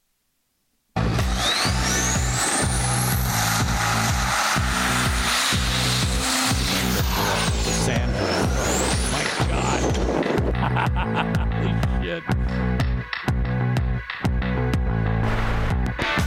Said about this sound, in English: Okay, now that looks like the, I know that vehicle there. That is the Merchant Automotive diesel sand rail. I actually have seen that car up close and personal at Merchant Automotive.